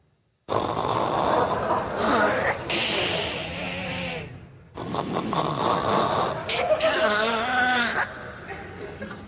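Loud, rasping snoring in long, grinding breaths that sputter and rattle like a car engine struggling to start, close and continuous with a brief pause midway.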